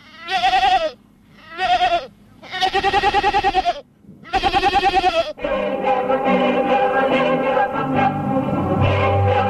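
A goat bleats four times in loud, wavering calls separated by short pauses, then the sound shifts into a dense, continuous stretch of music-like tones with no voices present.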